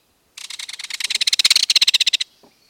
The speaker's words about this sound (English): And what about the sound of this stout little flyer, the belted kingfisher? Would you call this a rattle or a trill?